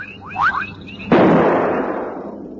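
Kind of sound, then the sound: impact, rifle gunshot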